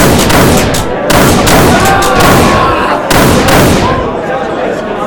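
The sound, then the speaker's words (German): Two loud, sharp rifle shots ring out about two seconds apart over a dense, continuous wash of noisy commotion, made together with villagers to drive a locust swarm away from the fields, each bang trailing off into the clamor. “Gemeinsam mit den Bewohnern des Dorfes versuchten sie durch Lärm, Tumulte und Gewehrschüsse die Heuschrecken zu vertreiben, damit sie sich nicht auf die Felder setzen konnten.”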